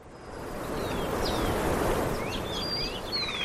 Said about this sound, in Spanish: Como te digo, lo que escuchas es el sonido de los pájaros. Qué tranquilidad, ¿eh? Del viento, poco más. Lo que hay es un pueblo, lo decías, un pueblo tranquilo, un pueblo vacío, desierto, en ruinas.